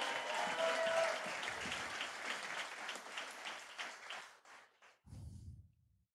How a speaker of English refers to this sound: If you receive that, take 15 seconds, clap your hands to the Lord. Come on, give Jesus a great big hand clap.